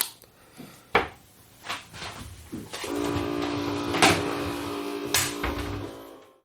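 A coffee machine runs its rinse cycle before switching itself off: a few sharp clicks and knocks, then a steady buzzing pump hum with hissing, splashing bursts over it, with no voices.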